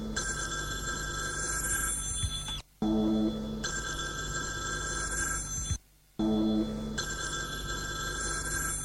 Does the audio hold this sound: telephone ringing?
yes